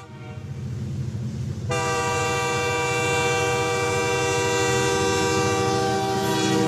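A train rumbles steadily along, and after a moment its loud horn blasts in and holds a long, sustained chord over the rolling noise until the end.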